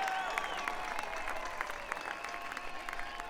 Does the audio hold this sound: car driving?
no